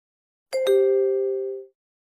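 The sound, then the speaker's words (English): A short electronic prompt tone signalling entry of card information for a credit card payment: two quick chiming notes, the second slightly lower, ringing out clearly and fading over about a second, with no voices. “Please enter your card information when you hear the beep.”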